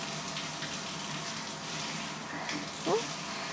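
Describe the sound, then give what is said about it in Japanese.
A steady, soft hiss of shower water spraying and rinsing soap foam off a body continues throughout, even, with a brief faint higher-pitched sound near the end. “でも泡はきれいに洗い落とさないと。”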